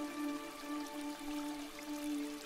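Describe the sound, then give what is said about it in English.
A soft, steady rush of water flowing in a waterfall continues without pause beneath a sustained low humming drone. “Basking in the flow of the waterfall.”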